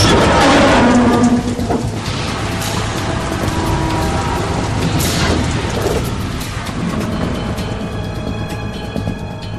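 Steady heavy rain pours down in New York in a dense, continuous hiss, loudest at the start and easing only slightly, with deep low rumbling underneath.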